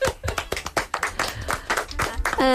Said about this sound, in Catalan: Molt bé, tranquil·la, ja està, ho has superat, un aplaudiment per ella.